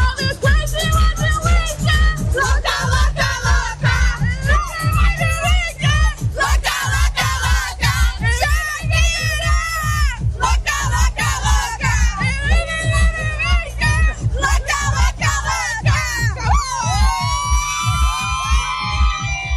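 A huge concert crowd shouts and chants loudly in rhythmic unison, a dense, continuous roar of many voices with regular pulsing beats running through it for the whole stretch.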